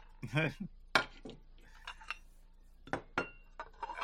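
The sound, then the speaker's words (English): Dishes and cutlery clink together in a handful of sharp, scattered knocks and rattles, with a brief murmur of a voice near the start and quiet pauses between the clatters. “Maybe it's time to break out the dishes.”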